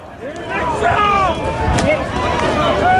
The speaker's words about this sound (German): Dortmund-Fans haben die Leipziger Gäste mit Steinen, mit Dosen, mit Feuerwerkskörpern beworfen. Und so wie wir das hier hören, klang das.